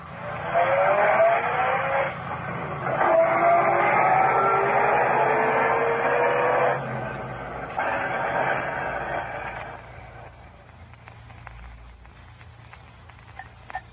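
A car tears away with its tires squealing in several loud, screeching bursts over an engine roar, then the noise fades into quieter traffic rumble. No one speaks.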